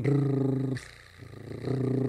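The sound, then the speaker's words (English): A rolled tongue trill done as a vocal warm-up, first voiced on a steady low pitch, then briefly breathy and unvoiced, then voiced again, with a fast rattling flutter throughout. “And the tongue drill,”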